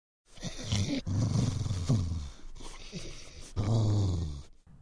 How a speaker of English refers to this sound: Suddenly there was a growling sound behind him. He turned around slowly. Oops! The soft toy was standing up, staring at him, showing its teeth and dribbling. It wasn't a large soft toy at all. It was a real dog.